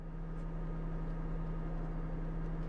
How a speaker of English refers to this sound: And bear in mind, we were sailing down the river, so you'll hear that gentle hum of the engine as we move along.